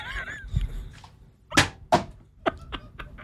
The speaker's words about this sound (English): He's throwing a water bottle at me. Thank God for the glass.